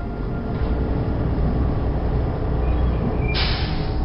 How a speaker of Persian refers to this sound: صدایی را از دور میشنوم، بیشک صدای اتوبوس است، اما مه صبحگاهی آنقدر غلیظ است که من به هیچ عنوان چیزی را نمیبینم.